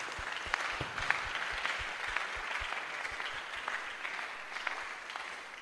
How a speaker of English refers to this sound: Are you clapping for Jesus?